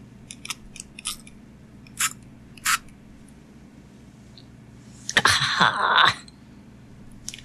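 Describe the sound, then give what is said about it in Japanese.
A few short plastic clicks and taps as the cap is taken off a throat spray containing a ginger-derived anti-inflammatory and azulene, then a brief hissing spray burst into the back of the throat lasting about a second, with a couple of quick pumps, followed by quiet. No one speaks. “ちょっと、喉の奥にスプレーしたいと思います。”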